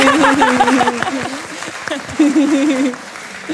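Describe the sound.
A group claps steadily in a dense burst of applause, with voices calling out and chattering loudly over the clapping throughout.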